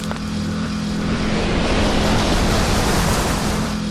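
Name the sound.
moped driving past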